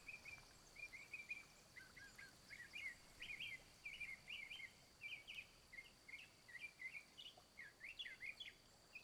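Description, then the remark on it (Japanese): Seven-coloured hummingbirds chirp steadily in short, bright bursts, several calls overlapping over a soft, constant forest hiss with a high insect-like whine, in a forest by an elf village; no one speaks. “ええ、泣いているのは七色ハチドリですね。幸せを運ぶと言われているこの森でしか見ることのできない小鳥です。”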